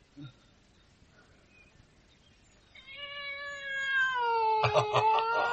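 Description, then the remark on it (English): A cat gives a long, drawn-out meow that rises into a louder, strained yowl, with clear harmonic tones, after a few seconds of near silence. “You are the culprit, eh, puss?”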